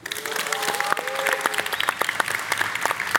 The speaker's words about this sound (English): Joo-hyung has his own cheering section.